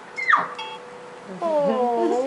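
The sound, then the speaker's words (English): A kitten gives a short, high, falling mew, then after a brief pause lets out a longer, wavering cry. Both calls are fairly loud, with no talking over them. “Do they all make that sound? Well, they'll turn into a growl later. It's a baby.”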